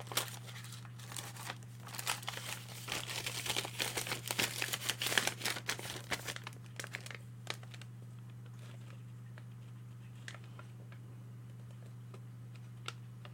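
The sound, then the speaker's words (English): Paper crinkles and rustles for several seconds as someone uses it to filter a bright deep red light, a dense burst of crackling that then thins out to a few scattered crinkles and ticks over a steady low electrical hum. “I know, I'll filter it through some paper.”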